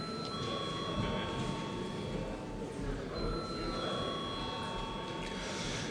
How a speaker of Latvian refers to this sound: Vai deputāti prasa balsojumu, lūdzu zvanu?